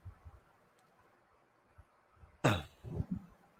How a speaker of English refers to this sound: Pardon me, had to cough.